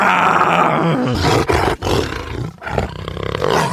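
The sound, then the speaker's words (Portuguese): A person imitates a real lion's roar with a loud, sustained, gravelly vocal bellow, broken by a couple of brief breaths before resuming the rough roaring sound. “Como que o leão faz? Que leão? Você tá falando técnico? Não, leão, leão de verdade.”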